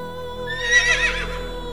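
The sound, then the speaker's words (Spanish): A horse whinnies once, a wavering, high-pitched neigh lasting under a second that rises and falls, set against a steady, soft tonal hum with no talking. “Observa cómo los caballos, con su energía poderosa y su elegancia, te rodean en la distancia, transmitiendo calma y seguridad.”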